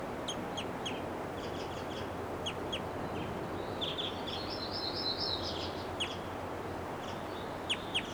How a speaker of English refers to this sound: Now she gave a flight call, now she's itching her face. That was her. There's some flight calls there.